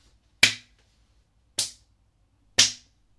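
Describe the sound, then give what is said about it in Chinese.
A kneeling person slaps their own face hard three times, sharp crisp slaps evenly spaced about a second apart, each a loud smack that fades quickly, with quiet between them and no talking. “自己扇自己的耳光，用力的扇”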